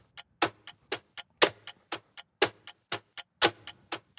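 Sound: clock ticking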